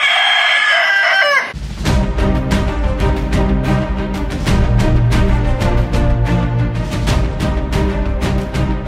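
A single loud rooster crow rings out at the start, then is cut off as upbeat music with a steady driving beat takes over and continues to the end.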